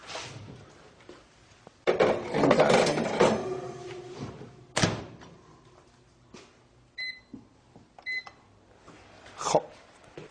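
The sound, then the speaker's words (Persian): A microwave door clunks open and shut with rattling handling noise as a container holding four-cup egg molds set on water is placed inside, then a few short high-pitched electronic beeps sound as buttons are pressed, followed by a final clack. “قالب های چهار تاییمون که داخل این ظرف تعبیه شده روی آب قرار میدیم، میذاریم داخل ماکرو.”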